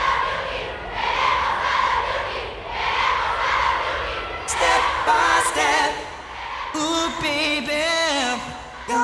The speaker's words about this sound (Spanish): En multitud de ocasiones hemos escuchado el rugido de las fans esperando en la puerta de la radio.